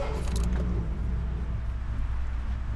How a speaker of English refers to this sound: Highway expert Dan McNichol steps down into his 1951 Hudson, a 2-ton curvaceous coupe that's way more beauty than brains. I give a little prayer of thanks when the car turns over.